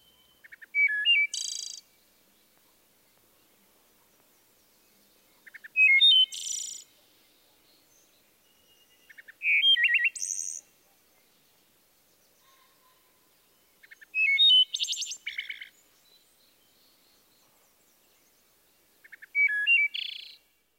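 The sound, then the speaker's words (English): A wood thrush sings five separate, evenly spaced phrases, each opening with clear flute-like notes and closing in a rapid fluttering trill, with quiet pauses between them and no voices. “Listen again to the Eole and the fluttered ending.”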